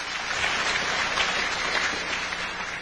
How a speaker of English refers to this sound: Yeah, unlocking it. There, now you can applaud the unlocking part. That's fun.